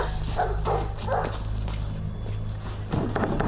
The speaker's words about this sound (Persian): سگا دارم برام واق میکنن، پس هنوز تو اوجم.